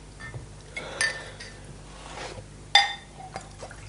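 Two bright, ringing glass clinks sound about two seconds apart, with soft clatter and a faint liquid rush of whisky being poured, without soda, in between. No one speaks.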